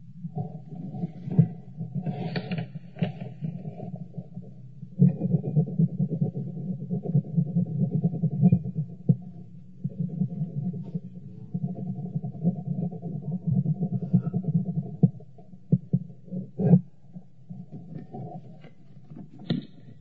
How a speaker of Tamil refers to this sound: கடைசியாக நீங்க கேட்ட இந்த சப்தமானது ஸ்ரீல பிரபுபாதர் அவருடைய கையெழுத்து இடம் அந்த சப்தம்.